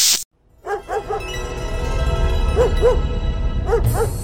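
A dog barks in short clusters of two or three sharp, fairly close barks, about seven in all, over a steady low background hum with no talking.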